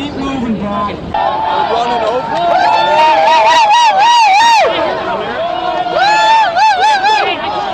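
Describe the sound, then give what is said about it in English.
A noisy protest crowd murmurs and shouts while the sirens of about 11 police squad cars pulled up the street wail and warble over it, loud and overlapping continuously throughout. “Well, they got about 11 squad cars that they pulled up the street and tried to intimidate the crowd into backing off just by pulling the cruiser in over the top of them.”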